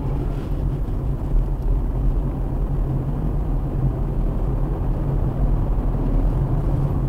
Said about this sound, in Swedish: Traktorn en liten bit bakom mig.